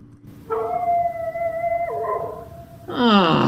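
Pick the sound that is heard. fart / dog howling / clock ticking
dog howling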